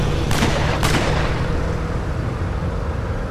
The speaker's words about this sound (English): The gunshots were over there.